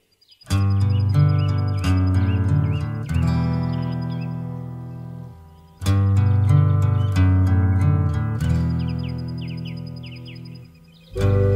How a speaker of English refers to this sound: It's 6 o'clock. The birds are singing. I'm wide awake whilst you're still fast asleep.